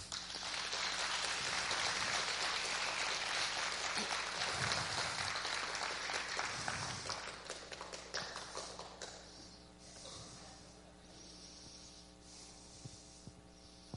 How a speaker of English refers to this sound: Okay, and how about those of you who came out Friday night to be a part of what we did at Deerfield Run Apartments? You know, our joint outreach event with Tabernacle of Praise. You guys rock. Thank you so much. Now we can clap.